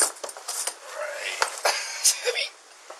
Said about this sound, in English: Within the second bag, there appears to be a... They look quite heavy. Oh, it's got coins.